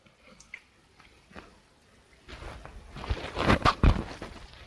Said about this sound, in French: alors je vais boire une petite gorgée, là, parce que je n'arrête pas de parler depuis tout à l'heure.